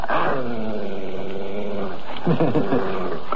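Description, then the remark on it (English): Pedigree German shepherd police dogs growl loudly, a long, steady rumbling growl followed by a rougher burst of snarling near the end, with no one speaking. “They aren't hounds. They're genuine pedigree German shepherds. They're police dogs.”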